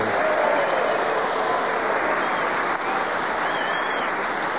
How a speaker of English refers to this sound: But now let's have a big round of applause for the winner this week, Clement Freud!